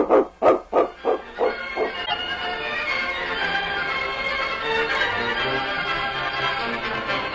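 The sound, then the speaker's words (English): A dog barks loudly, about six quick barks in a steady rhythm, then gives way to a dense, continuous wash of background sound. “Dogs are the best friends in the world, aren't they, King?”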